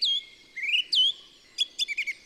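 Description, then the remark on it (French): Bright bird chirps in a dawn chorus: a few clear whistled notes sliding up and down, then a quick run of short tweets near the end, with no voices. “À partir du mois de juillet, on entend beaucoup, beaucoup moins d'oiseaux.”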